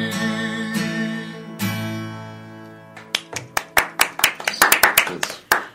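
A sustained musical chord rings out and fades, then a few people start clapping, sharp separate claps that quicken and grow louder into brief applause.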